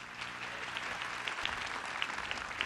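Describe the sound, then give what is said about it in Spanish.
A crowd claps loudly and steadily, a dense wash of many hands with a few sharper individual claps standing out, and no voices over it; applause for Colombia's soldiers and police at Lake Tota in Boyacá, Colombia. “Hemos ganado eso gracias al heroísmo de los soldados y policías de la patria, para quienes pido un aplauso.”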